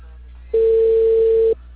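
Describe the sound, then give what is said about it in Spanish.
A single telephone ringback tone from an unanswered call placed by Cable Perú. A steady mid-pitched electronic beep lasting about a second stands out loudly over a low background hum, then cuts off abruptly. “Estoy con el timbre, no me contesta.”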